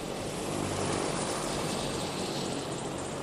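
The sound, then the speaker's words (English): The Alert medical helicopter, piloted by Ken Justice, lands in an empty parking lot near the Big Mountain Base Lodge. Its steady, loud rotor roar fills the air, a dense continuous whir with rumbling low thumps and no voices. “Pilot Ken Justice lands the Alert medical helicopter in an empty parking lot near the Big Mountain Base Lodge.”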